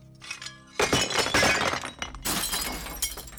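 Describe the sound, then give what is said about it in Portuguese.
Dishes and glasses thrown out of a ground-floor apartment window onto the street smash and shatter in a loud, jangling crash, followed by a second burst of breaking glass and clinking shards scattering, with no voices. “Eram pratos, copos, panelas, almofadas, roupas, objetos de decoração, até batatas.”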